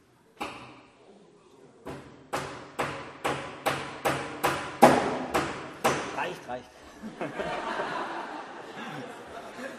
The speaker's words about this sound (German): Jetzt kommt der erste Hammer. Schlagt mal bitte die erste These sozusagen heute an die Tür der Schlosskirche zu Hohenhorst.